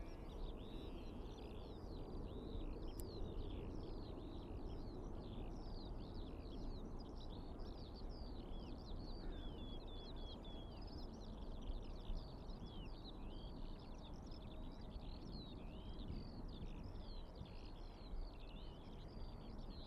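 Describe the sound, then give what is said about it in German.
A skylark, a very small hand-sized bird, sings a continuous, rapid stream of high warbling trills for the whole stretch on an airfield, over a steady low rumble of wind across open ground. No one speaks. “Auf dem Flugfeld gibt es viele Feldlerchen zu hören.”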